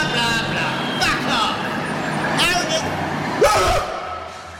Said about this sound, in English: But I hear the sound of a van coming. Yeah? Out of the fucking way! It's my right of way! Oh, fucking school bus!